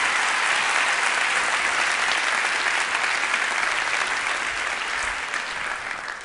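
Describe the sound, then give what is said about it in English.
A crowd claps in steady, dense applause as a man is presented with a gift and cash. It is a loud continuous patter of many hands that holds for several seconds and fades slightly toward the end, with no speech over it. “These all belong to you, along with a big round of applause from all your friends.”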